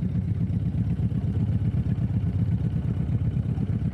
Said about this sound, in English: Those are the sounds of boating and of the lake.